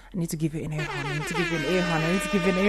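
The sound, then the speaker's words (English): A loud air horn blares in one long, sustained blast with a brassy, buzzing tone, kicking in after a brief bit of voice at the start and holding steady to the end. “I need to give you an air horn.”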